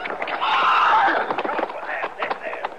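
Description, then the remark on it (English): A horse that went down hard scrambles to its feet, a strained snort or whinny followed by several uneven hoof clops and shuffles on hard ground, fairly loud. “How about the horse, Chester?”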